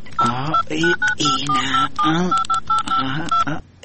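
A phone number being dialed to call a cousin: a quick run of about ten short, steady touch-tone beeps at varying pitches, sounding under someone talking throughout.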